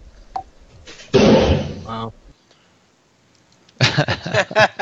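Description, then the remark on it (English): A single loud, flat burst imitating a gunshot, smeared and lasting almost a second, more like a slam than a sharp crack. Quiet follows, then people start talking. “That's not a very good gunshot.”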